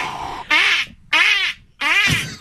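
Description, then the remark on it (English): Three loud, raspy duck quacks in quick succession, each about half a second long with brief pauses between. A person is mimicking a duck call by blowing into cupped hands, with no talking. “He wasn't producing the owl call, so he went back into doing a couple of duck calls to keep it alive.”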